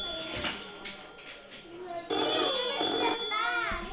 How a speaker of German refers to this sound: Auf einmal klingelt das Telefon.